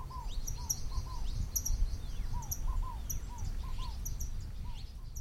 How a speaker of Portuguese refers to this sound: Que passarinhos eram aqueles que gorjeavam tão alto no meio do escuro e do frio? É claro, eram os passarinhos de Nazaré.